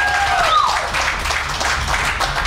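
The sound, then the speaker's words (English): An audience applauds steadily, a dense wash of clapping that holds at an even loudness throughout, with a brief high gliding whistle-like tone near the start. “You gotta clap harder than that.”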